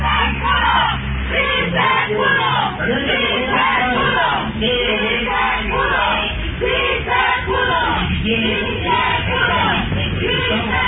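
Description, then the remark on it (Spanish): A large crowd of feminist collectives chants and cheers loudly outside the state Congress of Hidalgo, celebrating its approval of abortion decriminalization, many voices shouting "Sí se pudo" in unison with a steady rhythmic cadence, dense and continuous throughout with no quiet gaps. “Sí se pudo, gritan los colectivos feministas que apoyaban esta iniciativa allá, ya legal en el estado de Hidalgo, la interrupción del embarazo o la despenalización del aborto.”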